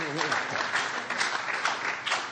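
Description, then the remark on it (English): A group at an alcoholics' recovery meeting claps three claps together in a dense, crackling burst that stays steady and fairly loud throughout, with murmuring voices mixed in underneath. “Yeah, three claps.”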